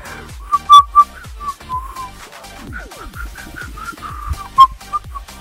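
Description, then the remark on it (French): Someone whistles a short, uneven tune, a string of breathy, wavering notes with a few sharper accents, a bit clumsy and halting, with no talking. “Bon, je sais pas siffler.”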